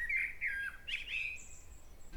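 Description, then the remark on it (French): A small bird chirps in a quick series of high, bright tweets and warbling notes, with a thin sustained whistle near the end, heard clearly over faint background noise and no talking. “Passarinho.”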